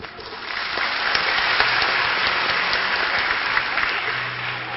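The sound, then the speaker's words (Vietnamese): Sustained applause from a crowd at a Buddhist camp, in sympathy for a camp member who told of his situation: a dense crackle of many hands clapping at steady loudness for several seconds, with no one speaking over it. “Chàng vỗ tay giòn giả như là một sự cảm thông về cái bản lĩnh của một người bạn trong trại của chúng ta, đã nói lên cái hoàn cảnh của bản thân mình và cái nỗ lực là muốn giúp người em của mình ra khỏi cái vết xe mà trước đây mình đã từng bị,”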